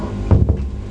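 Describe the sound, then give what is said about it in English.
A door swings shut with a short, muffled thud, fairly soft, over a steady low background hum with no one speaking. “Yeah, close the door.”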